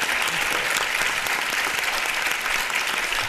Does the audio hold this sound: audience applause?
yes